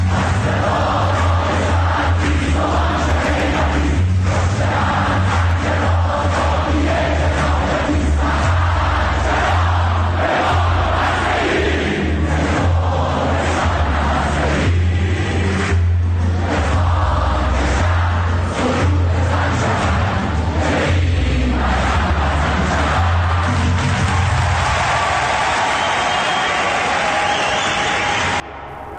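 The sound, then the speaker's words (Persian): A large crowd of students at a university protest at Sharif chants slogans in unison, loud and rhythmic, voices rising and falling in repeated phrases over a steady low rumble, continuing for nearly half a minute before fading slightly at the end. “شنیدید تو شریف چی میخوندن؟”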